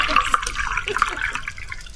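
A wine-pouring sound effect: liquid pouring into a glass, a continuous gurgling trickle with bright splashy detail and small bubbling plops, steady at moderate volume for about two seconds.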